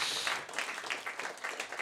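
An audience claps together, a dense, continuous patter of many hands lasting a couple of seconds, heard at moderate volume, with no one speaking over it.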